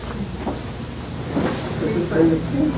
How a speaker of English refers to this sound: Oh, just open the door. It just opened hard. It opened hard.